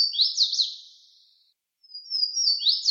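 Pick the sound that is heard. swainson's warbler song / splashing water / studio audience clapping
swainson's warbler song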